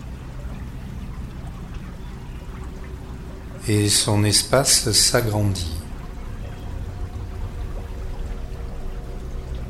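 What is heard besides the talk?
flowing river water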